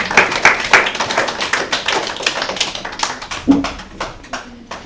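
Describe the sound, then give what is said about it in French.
An audience applauds a team's quiz score at a school show, a dense patter of many hands clapping rapidly and steadily for about five seconds, fairly loud throughout, with a brief faint voice briefly audible partway through. “On peut les applaudir.”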